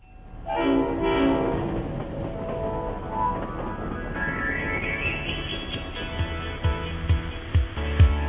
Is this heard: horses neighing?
no